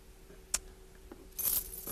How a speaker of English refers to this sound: Now let's take a look at these keys. What about that one? No, that's too big.